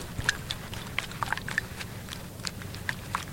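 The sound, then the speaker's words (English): Wet, squelchy gore effect made by dipping rags and paper towels into eggs and pulling them out again: a string of sticky squishes and small slaps with clicky, irregular wet pops, fairly quiet over a steady low rumble, no talking. “Supposedly, we can make it sound like gore and squidge, as they describe it, just by dipping rags and paper towels into the eggs and pulling them out again.”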